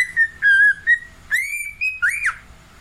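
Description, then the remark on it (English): A male pet bird whistles at its reflection in a mirror, a clear, bright melody of several sustained notes with rising swoops and a quick upward trill near the end, alone with no voices. “He's in the mirror doing it. He will not stop. He's a happy bird.”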